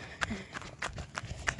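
A series of about five heavy footsteps thud at a steady walking pace, each one a sharp crunching impact over a faint, noisy outdoor background.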